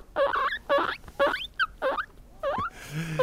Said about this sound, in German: Meerschweinchen machen auf jeden Fall lustige Geräusche.